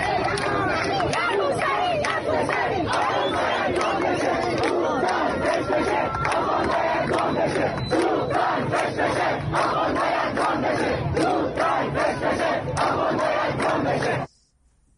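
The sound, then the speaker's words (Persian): A large crowd of Iranians protesting in front of the United Nations headquarters roars and shouts together in a continuous, dense wall of voices, with rhythmic surges suggesting chanted slogans, loud throughout before cutting off abruptly near the end. “از مقابل مقر سازمان ملل، محل تجمع اعتراضی ایرانی ها، به ما پیوسته.”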